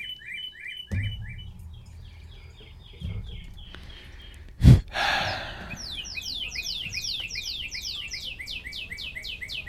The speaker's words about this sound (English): I love the way cardinals actually sing. They have a really good sound.